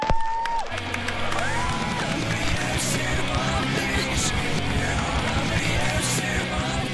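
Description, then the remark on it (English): Loud, dense music played in reverse on a turntable spinning counterclockwise because the electrical polarity was reversed, with swelling, sucked-in notes and smeared tones that seem to rise out of nowhere. It runs continuously for several seconds with no voices. “And as a result, the turntable rotated counterclockwise, and it played fine, except for that thing of it being backwards.”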